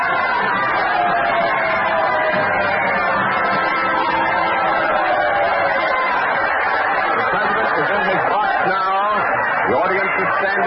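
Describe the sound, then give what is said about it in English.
A jam-packed theater audience gives a sustained ovation welcoming President Lincoln, picked up by Columbia microphones on the stage and in the audience; a steady roar of many voices cheering and calling out that holds at a loud, even level for the whole stretch without letting up. “The ovation continues”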